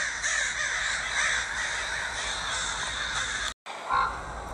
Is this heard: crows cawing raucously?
yes